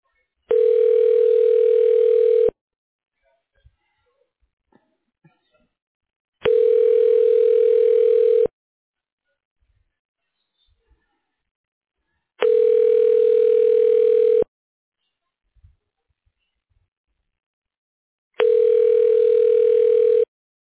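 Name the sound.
telephone ringing tone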